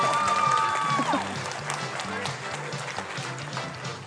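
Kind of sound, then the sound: crowd, studio audience clapping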